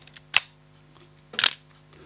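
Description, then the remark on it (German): A film camera from 1983 gives a sharp shutter click, followed about a second later by a longer, ratcheting burst of the film advance, both crisp against a faint low hum. “Das war noch ein richtiger Fotoapparat mit allem, was dazugehört, mit dem nötigen Geräusch.”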